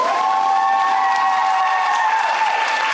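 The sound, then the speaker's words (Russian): A large, enthusiastic audience applauds loudly and continuously for talented boys and girls performing school dance numbers, a dense steady wash of clapping with crowd noise and faint cheering, no pauses or talking throughout. “Талантливых мальчишек и девчонок восторженная публика встречала громкими аплодисментами.”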